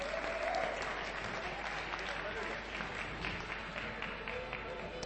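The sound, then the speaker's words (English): An audience applauds the church hospitality team in a dense, steady burst of many hands clapping that holds at an even loudness for about five seconds, with faint voices and a short cheer mixed in near the start. “so let's give them a last round of applause.”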